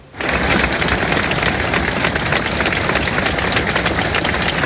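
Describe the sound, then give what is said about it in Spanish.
A crowd breaks into sustained applause after five minutes of silence accompanied by Spanish guitar, a tribute to Sergio and Jesús, who died in a fire in Alcorcón. Many hands clap at once in a dense, steady roar that starts abruptly and holds at an even, loud level without voices. “Aplausos por Sergio y Jesús, héroes según sus vecinos y la gente que les conocía”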